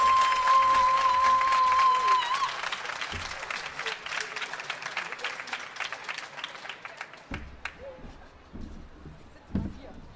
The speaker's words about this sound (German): Und was ich möchte jetzt einmal einen Applaus für beide Poetinnen. Macht mal bitte einen Riesenlärm